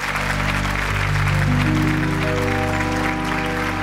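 Steady, dense audience applause at the Texas Troubadour Theater welcoming a singer from Minnesota and her band, filling the whole moment without letting up, while sustained instrumental tones climb stepwise underneath as music begins to play.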